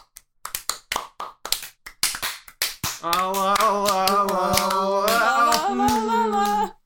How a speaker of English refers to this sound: I was just going to say some out of sync clapping.